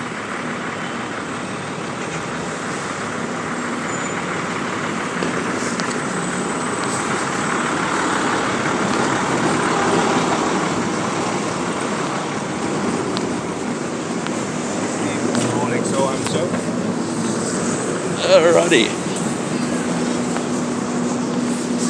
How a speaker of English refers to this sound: I've just spotted one of the ladder trucks of the New York City Fire Department, and I am chasing it on foot. Given the traffic, that's not necessarily a hard task.